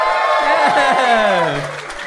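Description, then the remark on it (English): A loud crowd cheers and whoops over a steady wash of clapping, with several voices rising and falling together in a brief, energetic burst that tapers slightly at the end. “It's hard not to find that joy hurtful.”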